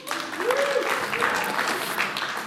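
A crowd claps steadily in a dense, even wash of applause, with a faint whoop or cheer rising briefly early on.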